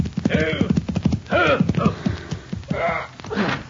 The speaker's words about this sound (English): As our story opens, a rider reins his horse in before the Convict Valley Cafe.